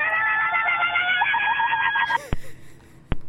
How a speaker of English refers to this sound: Tonight we're having a screaming contest.